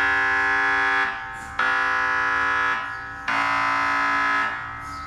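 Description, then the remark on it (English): Loud MRI brain scanner noise: three harsh, buzzing electronic bursts of roughly a second and a half each, a dense stack of steady tones with brief quieter gaps between. No one speaks. “Now, as you can see, or should I say, as you can hear, the problem about measuring your head inside a machine that sounds like an oversized inkjet printer on steroids is that it's very noisy.”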